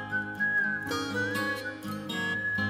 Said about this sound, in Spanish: Vamos a ir con otro artista que abusó del silbidito.